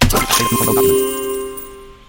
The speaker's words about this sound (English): And it also sounds like I just dumped a whole bunch of coins on the ground. Like, hey, thanks for the bike. I know you're scamming me, so I'm just going to throw these coins on the ground.